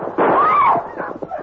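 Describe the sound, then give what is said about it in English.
A loud gunshot bursts out, followed by a ringing, whining tone that bends and fades, then a couple of fainter pops trailing off. No one speaks. “A bullet through your pa's leg and one through Larry's.”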